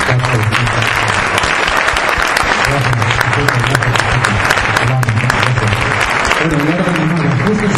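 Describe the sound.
Sustained, loud audience applause fills the whole stretch, a dense wash of many hands clapping steadily, with a low hum of voices and some speech running underneath.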